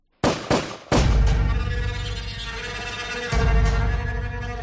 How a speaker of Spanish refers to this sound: termina enfadándose y le pega 3 tiros, matándola al instante.